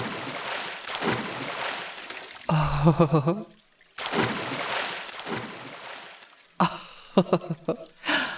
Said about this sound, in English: Having such a happy dum-dum time, bouncing in the waves, creating more waves. Do you think we could create a tidal wave? Let's try.